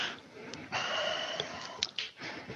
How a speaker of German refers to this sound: Also von daher, der atmet gerade nochmal tief durch.